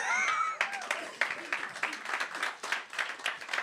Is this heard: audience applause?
yes